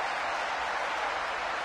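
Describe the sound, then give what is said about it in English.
A large Wisconsin crowd roars and cheers on Bucky Badger steadily, a dense wash of noise that holds at a constant loud level throughout with no individual voices standing out. “As Wisconsin is cheering on Bucky Badger.”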